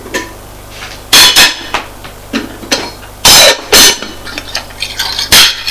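A saucepan, plates and a spoon clatter and clink together as they are handed over, with several sharp, loud knocks in uneven bursts and softer scrapes between them; no one speaks.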